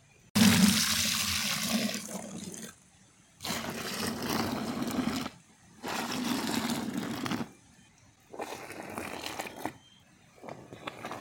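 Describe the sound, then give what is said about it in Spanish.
Water gushes loudly into a paint bucket, used for soaking clothes with liquid soap, in four separate bursts of a couple of seconds each, with short pauses between them. It is strong, with no one speaking. “En esa cubeta de pintura es donde yo remojo mi ropa y le pongo un tanto de jabón líquido, vean.”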